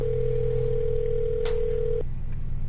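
A steady electronic ringback tone on a phone line sounds once for about two seconds, then cuts off, leaving a low line hum. No one speaks. It is an outgoing call dialed at random by the Sports Talk Live 95.5 WRJM radio show in Coleman.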